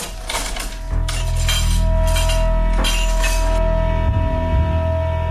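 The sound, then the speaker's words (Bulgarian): Breakfast dishes and cutlery being cleared away: a few sharp clinks and clatters of plates and silverware over the first seconds, then quieter handling over a steady low hum. “Отсервирам закуската, така и нищо не хапна.”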